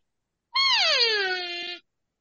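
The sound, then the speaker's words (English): A single drawn-out cow-in-heat bawl blown on an open reed call, starting high and sliding down into a steady, nasal moan that lasts over a second before cutting off. No talking. “Oh, that's a cow in heat.”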